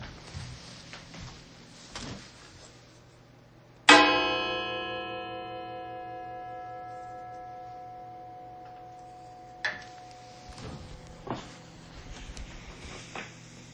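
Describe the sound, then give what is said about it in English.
A single mindfulness bell is struck once during a service, its bright, shimmering tone ringing out clearly and fading slowly over several seconds against faint taps and rustles. “And now, our mindfulness bell.”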